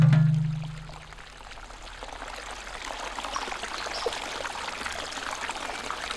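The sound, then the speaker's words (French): Steady rushing of flowing river water, a continuous, moderately loud burble and hiss that holds evenly throughout, with a brief low hum at the very start and no voices. “Le nénuphar put descendre la rivière, emportant Poussette loin des horribles grenouilles.”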